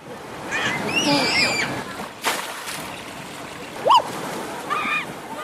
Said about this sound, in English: Children careening down gushing slides into pools of fresh water.